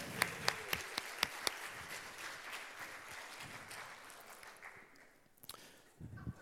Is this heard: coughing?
no